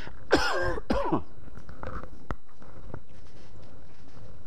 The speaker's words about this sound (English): I thought it had gone, this cough seems to be coming back.